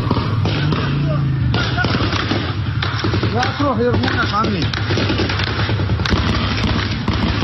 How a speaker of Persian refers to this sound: در بعضی از ویدیوهایی که از ماه شهر منتشر شده، تیربارهای کالیبر بالا پشت وانت نصب و در شهر مستقر شدند. شاهدان عینی میگویند در شلیک به نیزار ماه شهر که معترضان به آن پناه برده بودند، از تیربار هم استفاده شده است.